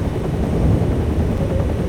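Steady, loud helicopter rotor noise from a video game, a continuous low thumping drone with no pauses, heard on its own without any voices.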